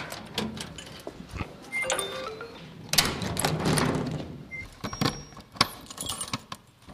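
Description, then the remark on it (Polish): Keys jangle and rattle repeatedly as someone struggles with a door lock whose cylinder won't work and from which the key cannot be removed, metallic clicks and scrapes coming in uneven bursts, with no talking. “Nawet wkładka się nie chce i klucza nie mogę wyjąć.”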